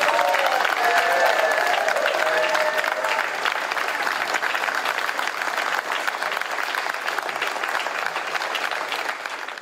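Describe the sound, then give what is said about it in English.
Conservative Party members outside Conservative Party headquarters in London clap steadily and loudly for the full length, greeting Rishi Sunak as his car pulls up, with cheers and a few whoops rising in the first few seconds before settling into sustained applause. “Outside Conservative Party headquarters in London, members of that party, still in the majority, greeting the person that will become the new prime minister.”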